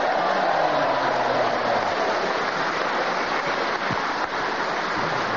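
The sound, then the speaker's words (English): An audience applauds in a dense, steady wash of clapping that holds at an even, fairly loud level for several seconds, with a faint voice briefly audible underneath at the start. “A well-deserved round of applause, because it's a tough game, and to do that without hesitation, repetition, or deviation for one full minute and not be interrupted.”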